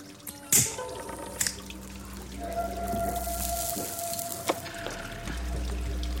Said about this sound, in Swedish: På ett café i Istanbul sitter en man och röker. Bakom honom porlar det i ett akvarium.